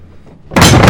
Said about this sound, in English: slams the bathroom door shut.